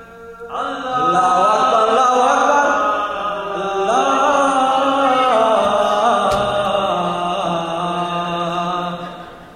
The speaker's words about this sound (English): And the 22nd time hearing the call to prayer.